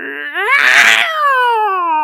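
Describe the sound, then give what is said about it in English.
A person imitates the noise of a demon cat at the top of the stairs, yowling with a whiny, harmonic wail that rises into a loud, raspy middle and then slides downward in pitch, sustained for about two seconds. “Making that super annoying cat noise, and Howard snuffs out his cigarette.”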